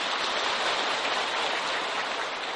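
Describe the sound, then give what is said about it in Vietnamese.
A crowd claps steadily, a dense wash of many hands applauding at an even, sustained level with no voices rising above it. “Xin quý vị cho một tràng vỗ tay đi.”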